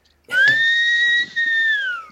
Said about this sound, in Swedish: Jag får inte till visslingen. Jag har ingen till.